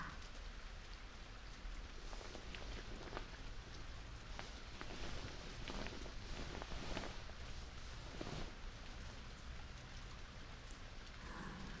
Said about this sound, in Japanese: 雨止みませんね。ポツポツって。